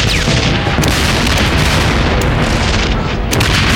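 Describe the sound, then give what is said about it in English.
Loud, continuous rumbling blasts of tossed dynamite charges going off in a back alley, raising clouds of smoke and dust: a dense roaring wall of low booms with sharp crackling bursts spiking through, sustained for several seconds with no voices. “Wolf and Barry and Jenny had each tossed a charge, and the back alley was thick with clouds of smoke and dust and hired guns lying on the ground.”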